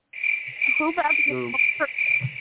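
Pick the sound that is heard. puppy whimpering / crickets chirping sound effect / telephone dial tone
crickets chirping sound effect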